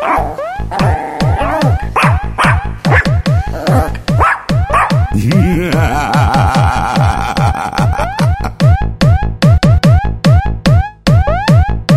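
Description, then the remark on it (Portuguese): A mongrel dog barks rapidly and almost nonstop, loud, with a drawn-out whining howl partway through before the quick barks resume. No one speaks. “Volta aqui, seu cachorro vira-lata. Só sabe latir.”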